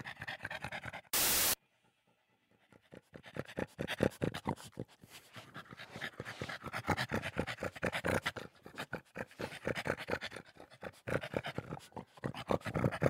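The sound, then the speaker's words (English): A slobbery, overweight pug in the Triple M radio studio pants rapidly and steadily, with quick, wet, rhythmic breaths continuing for several seconds after a brief burst of noise at the start. “there is a slobbery, overweight animal in the studio, and I don't mean Tom.”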